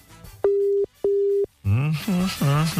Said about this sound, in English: I'll call him on the WhatsApp. One second. Come over there. It's ringing.